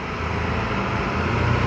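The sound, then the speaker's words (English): A loud, rumbling truck engine drones steadily, its low roar filling the space without pause and swelling slightly toward the end as it goes by. “It's another noisy truck.”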